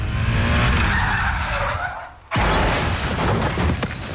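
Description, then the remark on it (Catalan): The car ahead brakes suddenly with a long tire skid, then a motorbike on the way to work crashes into it with an abrupt loud impact and shattering debris, with no one speaking. “De camí a la feina amb la moto, el cotxe del davant frenarà de cop. I xocaré.”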